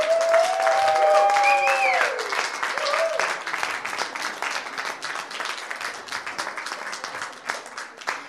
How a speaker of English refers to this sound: And now take your bow and give them a round of applause.